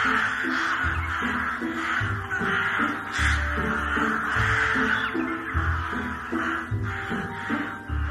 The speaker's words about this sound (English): we delve into the realm of the crow.